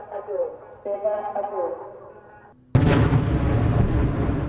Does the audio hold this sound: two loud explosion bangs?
yes